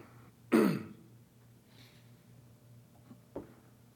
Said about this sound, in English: No, just clearing my throat.